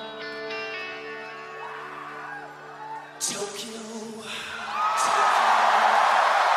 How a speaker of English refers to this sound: He sings it and he gets a cheer, doesn't it?